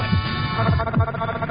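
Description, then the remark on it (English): A steady heartbeat sound effect thumps low and muffled at 72 beats per 60 seconds, a few beats pulsing over a constant droning hum, moderately loud with no voices. “This message will last 60 seconds. 72 heartbeats.”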